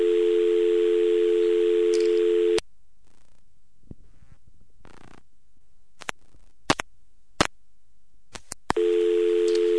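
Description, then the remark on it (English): A steady telephone dial tone hums loudly, cuts off abruptly into near silence broken by a few sharp clicks and faint rustles, then the dial tone returns at the end as the operator releases the call. “Notice that when the operator releases, it goes straight back to dial tone here.”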